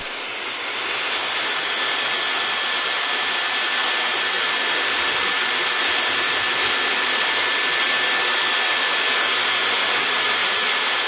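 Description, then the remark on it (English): A blow dryer runs steadily, a loud, even whooshing roar of air with a faint high whine held throughout, and no one speaks over it. “If you're one of them, Suave recommends you put down the guilt and go pick up your blow dryer.”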